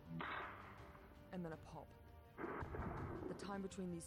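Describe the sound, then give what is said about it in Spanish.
Three loud, booming gunshot reports ring out about a second apart, each followed by a rumbling tail, with people's voices calling out between the shots. These are the gunshots that killed Abu Akleh, each a crack followed by a boom, fired from between 117 and 197 metres away. “Y luego un tronido.”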